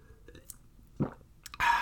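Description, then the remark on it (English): Someone sips a refrigerated iced coffee latte from Aldi: faint lip and mouth noises, a soft slurping gulp midway, then a louder breathy exhale or swallow at the end. No talking. “So let me take a sip here.”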